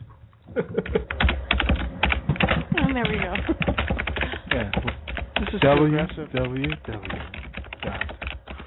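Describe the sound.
Rapid, steady clatter of typing on a computer keyboard by someone browsing the web, a continuous pitter-patter of clicks running the whole time while people talk over it.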